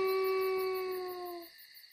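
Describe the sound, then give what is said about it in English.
A wolf, sitting down, lets out one long, mournful howl, a steady clear tone that sags slightly in pitch before cutting off, leaving near silence. “Then he sat down and howled. It was a sad howl.”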